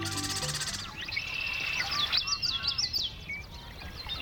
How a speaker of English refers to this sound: It's dawn in a western marsh in midsummer, and man, those birds are singing. The males of more than a dozen species are staking out their territories and attracting mates.